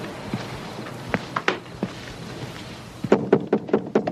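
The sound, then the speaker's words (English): Five firm, evenly spaced knocks from police pound loudly on a door in quick succession, following a few scattered softer taps and bumps against an otherwise quiet background. “The police come to the door for the criminals.”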